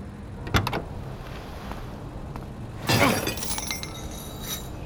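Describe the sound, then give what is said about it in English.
Two hard blows strike a metal lock on the gate of an airport landing strip, a sharp crack followed a few seconds later by a longer, clanging smash that rings out over a low, steady rumble. “Mateo smashed a lock on the landing strip's gate, and we drove right on the runway”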